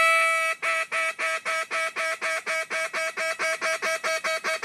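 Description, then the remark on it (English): A duck call blown by a world champion duck caller in a fast, steady run of loud, nasal quacks, alone, with about eighteen sharp, evenly spaced pulses following a longer opening note. “World champion duck caller and Ottawa Red Blacks, perhaps future quarterback, Duck Hodges.”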